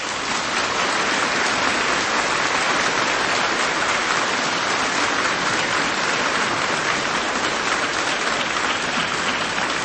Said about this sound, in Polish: Dajcie brawo dla tej szkoły.